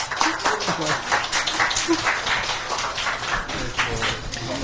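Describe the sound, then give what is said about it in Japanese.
A crowd at a wedding reception claps steadily in a dense, continuous patter of applause, welcoming a guest forward to give a speech. It carries on for several seconds at a moderate level, with a few voices murmuring underneath. “拍手を迎えください。”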